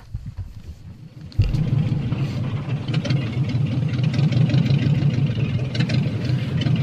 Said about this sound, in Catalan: Finalment... quin motor més escandalós.